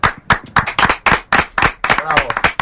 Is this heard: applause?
yes